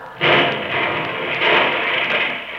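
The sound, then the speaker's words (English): A car bomb rigged to the starter goes off in a sudden loud blast that gives way to a steady, heavy roar of rumbling noise carrying on for over two seconds, with no voices. “Well, that sounded like an explosion.”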